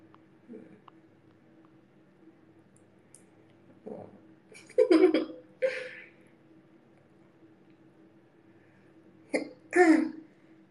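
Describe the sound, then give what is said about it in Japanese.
A person clears their throat several times in two short clusters of harsh, raspy bursts, fairly loud against a quiet background, with a faint hum underneath. “これ咳払いはね、ってやる。”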